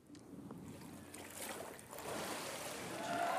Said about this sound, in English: I don't know if y'all noticed that, but as soon as I came out of the water, I guess my gut reaction was to shake the water off, and I got pastor wet.